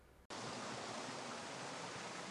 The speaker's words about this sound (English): It's quite a loud sound of gushing water here. Very wet, isn't it?